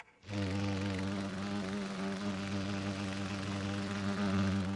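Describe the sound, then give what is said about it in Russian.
A beetle buzzes steadily in flight toward a trap baited with a candy, a low droning hum with rich harmonics that starts abruptly and holds at a fairly loud, even level, wavering slightly in pitch throughout. “Котята ждут, когда жук залетит в их ловушку.”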